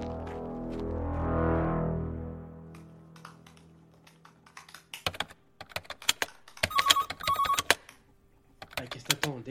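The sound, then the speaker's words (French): A mobile phone rings with an incoming call from a hidden number in two short electronic bursts. Soft keyboard tapping and a low swelling drone come before it, and clattering noises surround the ring. “Lance l'appli Fake Voices en calquant la voix de Jacques et appelle un des 2 en masqué.”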